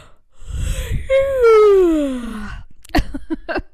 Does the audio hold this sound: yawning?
yes